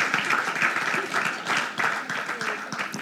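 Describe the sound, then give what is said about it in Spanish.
An audience breaks into steady applause for the Lord, many hands clapping in a dense, continuous wash that stays loud throughout, with faint voices mixed in underneath. “Anímate, dale un aplauso al Señor.”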